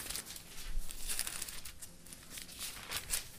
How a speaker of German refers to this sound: Sind wir wieder in der Offenbarung? Bisschen blättern.